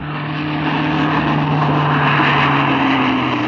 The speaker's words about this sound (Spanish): Un auto con las luces apagadas se detiene a escasa distancia de Garfio